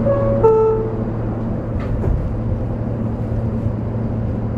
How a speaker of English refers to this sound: for the Jamaica Center-bound local train. The next stop is 65th Street. Stand clear of the closing doors, please.